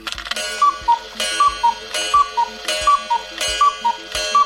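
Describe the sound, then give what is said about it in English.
A cuckoo clock calls its two-note cuckoo over and over in a quick, steady rhythm, each call landing on a sharp mechanical clunk and tick, fairly loud with no voices. “Fancy being the owner of a cuckoo clock museum?”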